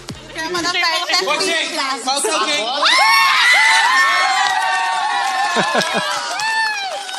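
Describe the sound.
An excited group shouts and cheers at a TV during a live broadcast, jumping and throwing cushions in the air, with overlapping high-pitched voices and whoops that swell and stay loud and continuous for several seconds.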